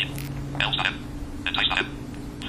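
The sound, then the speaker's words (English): A tinny video game theme ringtone plays from a phone: two short bursts of bright, bleepy melodic notes over a low steady electrical hum with no one talking. “I'm going to go back to my Mario Brothers tone, though.”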